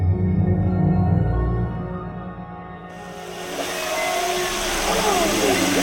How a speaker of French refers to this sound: Alors là, on entend des chants de des différents types de sons, des whoops, ouais, de baleines à bosse. Ouais, un truc que j'aime bien dans celui-là, c'est qu'on entend une sorte d'écho.